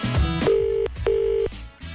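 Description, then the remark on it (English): A phone line's ringing tone sounds as two short, steady electronic buzzes in quick succession, clear and fairly loud, over background music, as the Today FM radio show phones a listener. “It's ringing.”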